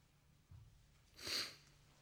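A single sharp nasal sniff from a person with a sinus infection, rising and fading within a fraction of a second against a quiet low hum, with no talking around it.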